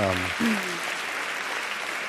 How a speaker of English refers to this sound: Yes, please clap for that, please, yes.